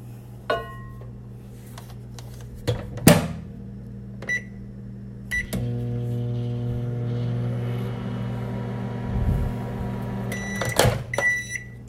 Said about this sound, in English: Go up to your microwave, and you're going to microwave this for 5 seconds.